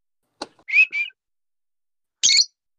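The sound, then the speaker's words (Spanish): A pet bird answers with a few short whistles: a sharp click, then two bright rising whistled notes, and after a pause a final harsh, high chirp. No one talks over it. “Mira cómo te responde y todo, ¿eh? Pájaro.”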